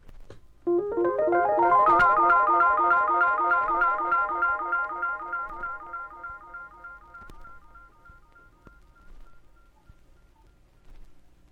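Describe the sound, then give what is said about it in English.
A Rhodes electric piano played through an Echoplex tape echo, each phrase repeating in a steady cascade of delayed copies that blur together, then slowly fade out over several seconds, with no talking. “And here's the sound with the Echoplex.”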